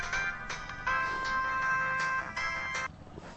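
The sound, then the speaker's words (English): A mobile phone in a pocket rings with a ringtone playing a Bollywood song, a bright, tinny melody of sustained tones that carries on steadily for a few seconds, with no one talking. “That's an advertisement for some Bollywood song.”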